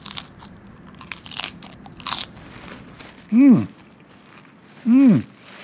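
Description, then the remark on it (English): Crisp, crackly crunching of a finger salad of raw vegetables being bitten and chewed for a couple of seconds, followed by two short, loud hummed voice sounds with a rising-then-falling pitch. “I gave finger salad a try.”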